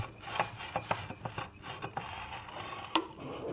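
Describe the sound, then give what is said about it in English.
Crystal glass is slowly spun and pressed against a spinning stone wheel along guidelines drawn on the crystal, with water trickling onto the stone to keep it from overheating: a steady gritty rasp broken by irregular sharp scraping bursts, with one louder screech near the end. No one speaks. “I've got to press the glass to the stone exactly along the guidelines.”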